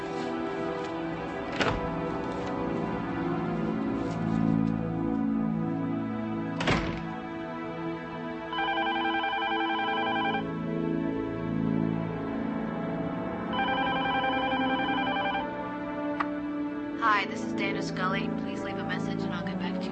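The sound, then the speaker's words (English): A telephone rings twice as Mulder calls Scully, each ring a steady electronic trill lasting about two seconds with a pause between, heard over a low, continuous background of music and ambient sound. “Pick up the phone.”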